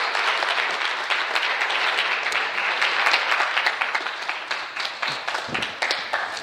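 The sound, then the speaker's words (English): A crowd applauds the moms, a dense wash of many hands clapping at once, staying loud for several seconds before thinning into scattered, separate claps near the end. “Well, I want to thank, let's give all of our moms one more round of applause today.”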